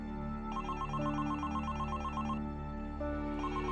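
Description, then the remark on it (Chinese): A telephone rings with a loud, warbling electronic trill that repeats rapidly for about two seconds, then starts again briefly, over a steady low background hum. No one speaks. It is a sudden call from the judicial bureau, received one evening during dinner. “有一天我和阿妈我们两个晚上吃饭的时候，我们的礼堂的司法局就突然来电话，你们来到局里头，我有事情告诉你们。”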